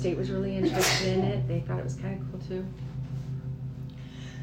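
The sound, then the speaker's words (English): A single sharp sneeze bursts out near the start, loud, cutting across a man's steady conversational speech, which carries on without pause. “Bless you.”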